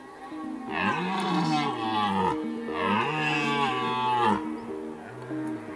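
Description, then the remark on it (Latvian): Deep, drawn-out bellowing from bulls, two long loud calls back to back, each rising and falling in pitch, followed by a shorter call at the end. No voices. “No rīta, kad tiek iekšā tai centrā starp tiem buļļiem un kad tur viss riņķī ir rēts un tur tā zeme pilnīgi trīc no tās rēkoņas viss, nu, tā sajūta ir fantastika.”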